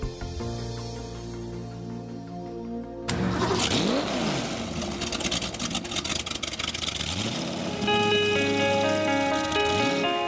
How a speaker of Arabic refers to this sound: نقرة محرك السيارة صوت معتاد لدى الكثيرين، لكنه الصوت العذب الذي تطرب له أذن ضيفنا